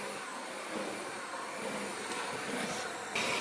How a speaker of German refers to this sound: Ganz gut, nur der Mixer ist sehr laut. Hört mal kurz.